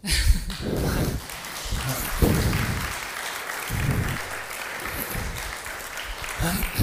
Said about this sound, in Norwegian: Jeg tenkte kanskje at du hadde fortjent en applaus.